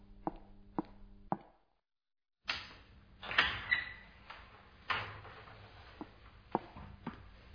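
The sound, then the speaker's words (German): A door is opened to walk through: a few sharp latch clicks, a brief silence, then the door swings open into louder room ambience with knocks and handling thumps. “Gehen Sie durch die Tür.”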